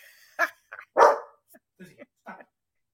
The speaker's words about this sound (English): Lizzie, your dog's agreeing with me.